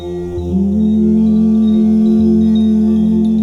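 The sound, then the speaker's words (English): A single voice hums gently and steadily with closed lips, sliding briefly upward at the start and then holding a mellow, sustained low tone. It is moderately loud, with no talking. “We will begin with some gentle hums like this.”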